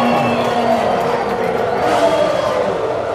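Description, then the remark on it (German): A dense, continuous roar of many voices cheering together in the grandstands at a Formula 1 race, loud and steady throughout, with no single voice standing out. “Der Geruch von Benzin in der Luft, den Jubel auf den Tribünen.”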